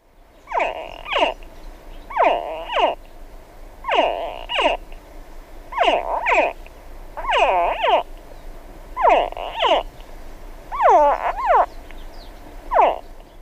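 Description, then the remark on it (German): Hatchling crocodiles, ready to hatch, give shrill, grunting chirps, a call audible up to 20 metres away. Short bursts repeat steadily about once a second, some rising and falling in pitch. Fairly loud, with no talking. “Und wenn die jungen Krokodile bereit sind zu schlüpfen, dann geben sie ein schrilles Zwitschern von sich.”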